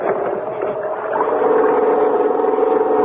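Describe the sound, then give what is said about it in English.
A small pull-start generator engine, started with a long, hard pull on the starting rope to power a searchlight, catches and runs, its loud, steady mechanical drone swelling slightly after the first second and holding a buzzing, even hum to the end. “Give the starting rope a long, hard pull”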